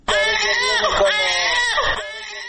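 A newborn baby in its first days of life, living under a tent in the direct heat of the sun in Maymana, Faryab, cries in one long, loud, high-pitched wail lasting about two seconds. The strained, bleating tone wavers up and down before it stops abruptly.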